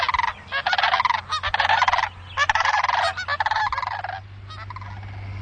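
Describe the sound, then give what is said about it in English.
Sandhill cranes, heard during this year's crane count, call loudly in a series of rolling, rattling bugles, several bursts overlapping for about four seconds over a low steady hum, then fading to a few softer calls. “This year's crane count is still being tallied, but Krueger heard 9 birds and saw 3 flying by.”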